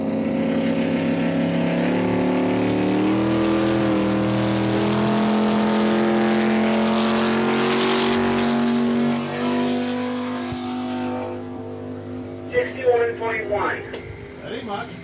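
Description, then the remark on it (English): A 2,300-pound racing lobster boat, not a working boat, roars loudly and steadily on a speed run, its engine's droning pitch shifting slightly as it runs, then it drops away, leaving choppier, fluttering noise near the end. “Unlike most of the boats, Foolish Pleasure is not a working lobster boat.”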